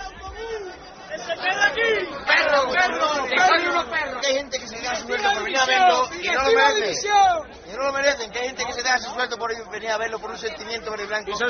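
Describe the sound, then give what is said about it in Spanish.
Betis football fans in Seville shouting protest chants against Velázquez after a 1-0 loss to Leganés, many raised voices overlapping in a loud, steady roar that barely pauses, with one short dip in volume partway through. “Cuando llegaban, a la ciudad de Sevilla había gritos de Velázquez sevillista.”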